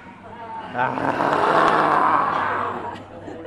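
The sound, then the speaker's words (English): A group at a yoga class lets out a long, breathy roar together in the lion pose, tongues poked out, swelling loud for about two seconds before fading, with a hint of chuckling mixed in. “It's the lion pose that gets the group laughing. It is hard to keep a straight face when you're roaring.”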